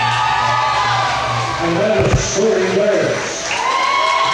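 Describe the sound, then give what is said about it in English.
A large basketball crowd at a championship boys' game, including many Thayer Bobcat fans, cheers and roars steadily as the Hillcrest Screaming Eagles take the floor for the starting lineup introductions. Whoops and shouts rise above a dense wash of noise, with a sharp thump near the middle and no clear talk. “And still a big crowd on hand. A lot of the Thayer Bobcat fans stuck around to watch this championship boys game.”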